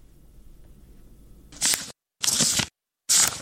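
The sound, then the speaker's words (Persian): Three crisp, papery rustles as a 14-year-old Afghan schoolgirl turns the pages of her books, evenly spaced, each a short swish separated by brief silences after a quiet moment of low background hum. “با هر بار ورق زدن کتابهایش خاطری تلخ روزی را به یاد می آورد که برایش اجازه داده نشد داخل مکتب برود.”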